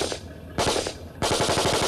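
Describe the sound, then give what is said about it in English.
Loud bursts of rapid machine gun fire, three volleys in quick succession, the last a long stream of sharp, evenly spaced rattling shots with no voices. “Charlie, at 2 o'clock, open fire!”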